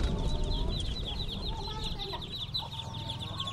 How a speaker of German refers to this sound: Hühner bevölkern die Straße